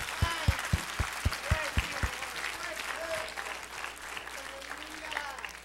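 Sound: audience applauding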